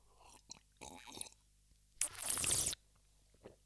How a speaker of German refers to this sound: Ich nehme mal kurz einen Schluck Wasser, dann kann es instant losgehen.